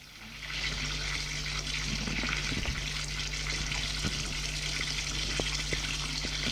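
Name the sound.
shower water running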